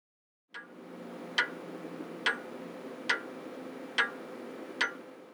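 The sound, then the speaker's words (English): A pendulum clock ticks steadily, five crisp, evenly spaced ticks, set against a low, constant background hum with no voices. “This discovery led to the invention of the pendulum clock, the first accurate way of keeping time.”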